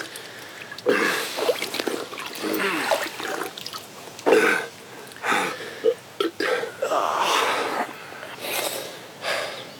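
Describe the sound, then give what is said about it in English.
Slurping and gulping of scummy-looking water from a pool, with snorts and gasping breaths between several irregular bursts, and no talking. “You take a good big drink.”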